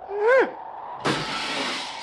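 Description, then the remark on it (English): A short rising-and-falling whistle, then a pause before a thrown rock slams into a car with a sudden loud crash that rings and rattles for about a second, no talking. “That's the car, right here.”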